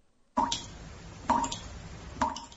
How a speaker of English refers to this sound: I mean, I could put just some drips underneath it.